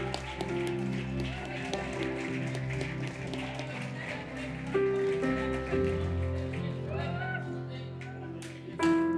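An audience claps steadily throughout, a dense patter of many hands over sustained musical chords, with the clapping swelling briefly near the end.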